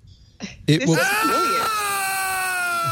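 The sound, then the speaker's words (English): A long, high human scream rises sharply after a few brief vocal sounds, then holds a strained, sustained pitch that wavers slightly, sounding slightly tinny as it plays out of a yellow outdoor speaker in Iceland. “I just screamed in Iceland, ladies and gentlemen.”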